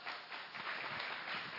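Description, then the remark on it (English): An audience applauds to welcome the superintendent as he comes to preach, a dense, steady wash of many hands clapping at once, sustained and fairly loud throughout the short moment with no voices standing out. “And so would you just welcome our superintendent with a round of applause as he comes to minister the word today.”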